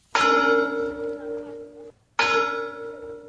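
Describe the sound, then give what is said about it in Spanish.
Two loud strikes from replica bells, rung on a Sunday in Birmingham, Alabama, to mark the 50th anniversary of a racially motivated bombing. Each strike has a sharp attack and a long ringing tone that hangs for nearly two seconds before the next one sounds, heard alone. “Con réplicas de campanas, los afroamericanos residentes en Birmingham, Alabama, conmemoraron este domingo el 50 aniversario de la explosión por motivos raciales de una escuela dominical donde murieron 4 niñas afroamericanas.”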